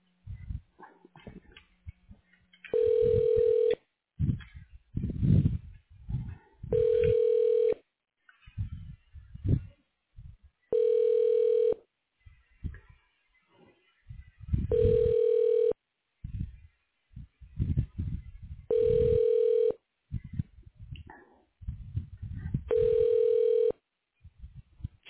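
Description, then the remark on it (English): A telephone rings repeatedly down the line as a call is transferred to an office phone in the diagnostic imaging department of McKenzie Willamette Medical Center: six steady electronic tones about four seconds apart, with muffled background noises filling the gaps between rings. “I'm going to transfer you to her phone. Here we go.”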